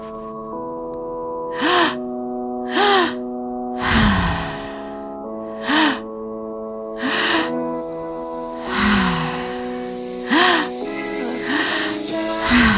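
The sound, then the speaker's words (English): Deep, audible breaths in a guided breathing exercise, sharp inhales through the low belly and high chest and sighing exhales out through the mouth, repeat every second or two over soft, sustained instrumental music, with no talking. “Keep breathing.”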